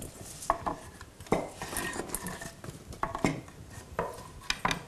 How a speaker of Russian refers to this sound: Теперь я попрошу вас дать мне кастрюлю. Яблоки мы складываем в кастрюлю.